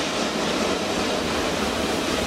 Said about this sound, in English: Train. So there's a train coming. Whoop de doo. Train's going by still.